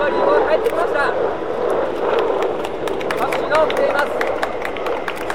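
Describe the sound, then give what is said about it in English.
A crowd applauding as an aircraft touches down on the runway with its parachutes out, with dense, rapid clapping running steadily throughout, mixed with overlapping voices and cheering at a fairly loud, even level. “And a lot of applause.”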